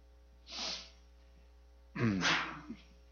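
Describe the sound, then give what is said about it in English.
A single sneeze: a short breathy intake, a pause, then a loud, sharp burst that trails off quickly, over a faint steady electrical hum. “God bless you.”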